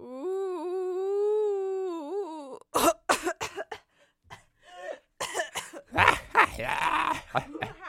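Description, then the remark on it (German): A voice imitates a harsh smoker's cough: a long, strained vocal drone gives way to a string of rough, hacking coughs and throat-clearing bursts, fairly loud. “Kannst du einmal machen und am Ende hustest du so. Ja, so richtig so ein Raucherhusten.”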